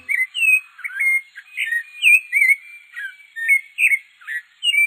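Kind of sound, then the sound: bird, sabiá thrush singing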